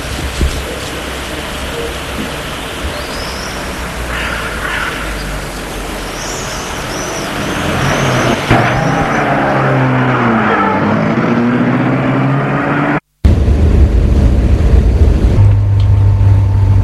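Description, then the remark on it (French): A car drives along with a steady, loud road rumble and engine drone that rises in pitch midway, briefly cutting out near the end before the noise resumes. No one speaks. “Lorsque la voiture roule, il a un peu mal au corps.”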